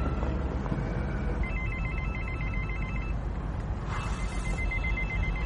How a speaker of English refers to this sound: Mobile phones. Bloody nuisance, if you ask me. Oi! It's yours!